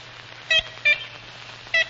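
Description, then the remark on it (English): Three short, nasal, horn-like toots from an ivory-billed woodpecker, unevenly spaced and fairly clear, standing out above a faint steady low hum with no other sounds. “It's actually more of a honk, kind of an awkward sound.”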